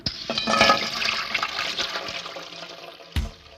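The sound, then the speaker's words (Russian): Pressing the lever of a street water pump sends a strong gush of water into a bucket hung on its spout, loud at first, then settling into a steady rushing splash before a single dull knock near the end. “Нажимаешь на него, тут же струя ударяет в ведро.”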